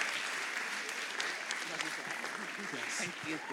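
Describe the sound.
An audience at a worship gathering, standing on their feet, claps continuously as a speaker comes up, a dense steady wash of many hands at even loudness, with faint voices mixed into the applause.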